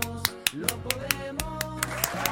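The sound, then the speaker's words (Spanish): Rhythmic handclapping, about a dozen sharp claps in a steady beat, over a sustained tonal, music-like background. “Aplausos, aplausos, porque esto no se hace solos.”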